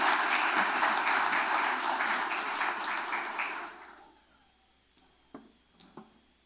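A round of applause from a crowd for an honoree at a ceremony, dense and steady clapping for about four seconds before fading out, followed by two or three isolated claps in near silence.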